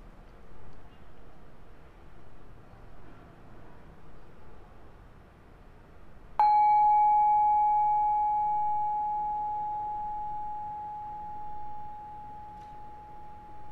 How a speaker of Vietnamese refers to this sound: mời mọi người mình thả lỏng, mình nghe một cái tiếng chuông gõ ha.